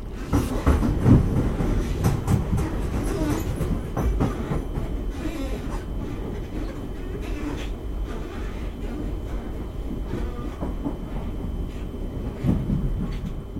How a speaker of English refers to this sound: When I'm knitting, I can hear trains going past. Because I live next to a train track. And that doesn't really disturb the knitting.